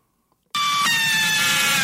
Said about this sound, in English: That's an ambulance. That's the bad date sound effect.